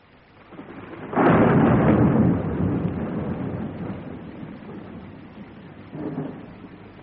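A loud, deep roll of thunder breaks suddenly during a night thunderstorm at a cemetery, then rumbles on and slowly fades beneath a steady wash of rain, with a second smaller rumble near the end.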